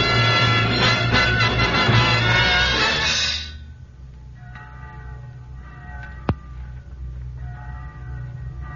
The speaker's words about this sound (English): Church bell? Oh, yes, yes, of course. Church bells are on God's side.